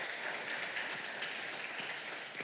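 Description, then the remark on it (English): An audience claps steadily for a couple of seconds, a dense, even patter of many hands with no voices over it. “I would have said that earlier if I knew it was going to get a clap.”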